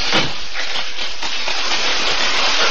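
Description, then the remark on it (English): Heavy rain pours down in a dense, steady hiss, loud, with no pauses or other sounds breaking through the continuous downpour, on a dark, very windy, stormy night at a house on a dirt road in the country. “It was a dark night, very windy and raining hard as we pulled up the dirt road to the house.”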